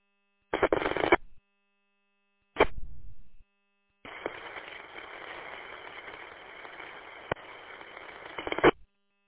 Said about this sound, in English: I did not hear anything in there except for some static and carrier.